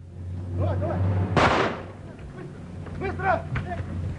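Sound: gunshot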